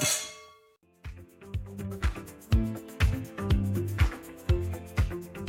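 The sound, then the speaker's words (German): Glasses clink together in a toast with a bright, ringing chime that fades quickly, then a rhythmic piece of music with steady percussive beats starts up and plays on. “Danke. Prost. Prost. Mahlzeit. Prost.”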